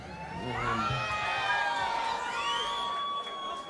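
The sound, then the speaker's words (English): A concert crowd in Baltimore applauds a singer steadily for several seconds after he says his name, with cheering and a few long, rising and falling whistles ringing over the clapping. The noise stays loud throughout, and no one speaks. “I wish I could get that kind of applause every time the only thing I knew for certain was my name.”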